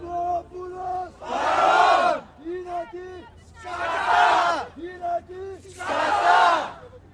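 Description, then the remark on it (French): A protest crowd chants slogans in call-and-response: a single voice calls out the boy's name, Grigoropoulos, then a loud mass of voices shouts back "present", three times in a steady rhythm. “Encore le nom du garçon, Grigoropoulo, et tout le monde qui répond présent.”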